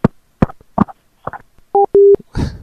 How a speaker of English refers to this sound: What was all that clicking? Was that him, like, angrily hitting the hang-up button? You know how they say you can't really angrily hang up a phone anymore?